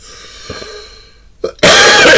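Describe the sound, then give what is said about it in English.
A short throaty catch is followed by a loud, harsh cough bursting out after a moment of near silence. No one is talking. “As you can tell, I still haven't got rid of the cough, but I will do.”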